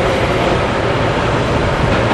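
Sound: train running on rails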